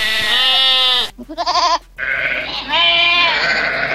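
Several sheep bleat loudly in quick succession, overlapping nasal, wavering calls from a flock of 150 sheep brought in to weed the Pompeii archaeological site, one short trembling bleat between longer drawn-out ones, with no other sounds around them.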